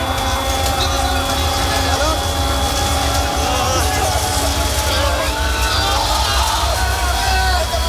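Passengers on a plane crashing in snowy mountains scream and yell continuously over a loud, steady engine roar, with the chaotic cries and rumbling noise filling the whole stretch.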